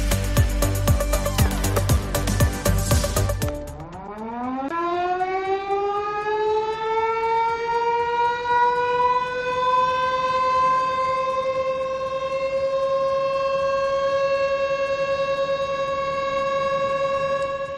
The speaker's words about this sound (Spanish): Que nadie se asuste, pero es posible que hayas escuchado estas sirenas entre las 12 y la 1 del mediodía. Así que si has escuchado algo parecido, tranquilo, porque se trata de un gran despliegue de bomberos y policía de todos los cuerpos.